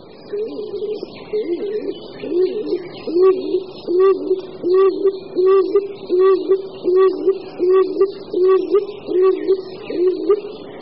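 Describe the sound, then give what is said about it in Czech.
A stock dove coos in a steady run of low, hollow double notes, repeated roughly every second for the whole stretch, fairly loud with faint background noise. “Na rozdíl od druhého našeho lesního holuba, hřivnáče, je holub doupňák o něco menší a zejména nemá žádné nápadné bílé znaky v opeření krku a na křídlech.”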